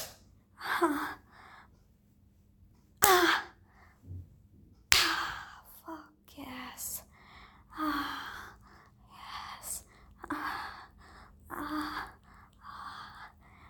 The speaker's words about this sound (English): Slap my face.